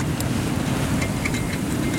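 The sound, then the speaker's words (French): Strong wind, gusting to 80 km/h, buffets an electricity pylon overhead near a power plant at about 1:30 a.m. in worsening weather: a steady low roaring rumble with faint, wavering high-pitched whines from the vibrating structure, unbroken and fairly loud throughout. “C'est un pylône électrique au-dessus de nous qui vibre à cause du vent.”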